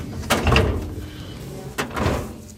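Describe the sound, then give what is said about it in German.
A metal office drawer holding hanging files rolls and thuds shut, a low rumble between two clunks about a second and a half apart, with no one talking, as files are put away while a desk is tidied for the weekend. “Die Akten wandern in Schubladen mit Hängeregister neben Fällen, die keiner gleich ist wie der andere.”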